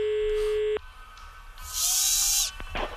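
A tattoo machine at Snake Tattoo, a tattoo studio on Andra Långgatan, buzzes with a steady, tonal electric hum that cuts off abruptly, followed by a louder, hissing mechanical whir and some faint clattering. No one speaks.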